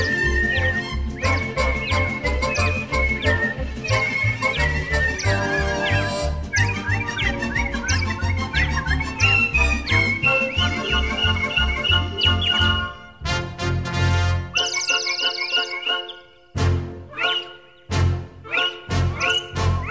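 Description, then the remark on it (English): An audience whistles bright, warbling imitations of birdsong along with a song over loud, full music, many trilling tones overlapping, then a few sharp whistled chirps stand out in brief gaps near the end. “Take your time from the birds. Now you all know the words. Sweet, sweet, sweet, sweet, sweet, sweet. Everybody whistle.”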